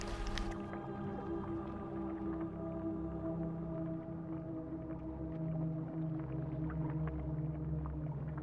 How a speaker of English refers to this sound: But I'm hearing little dolphin noises.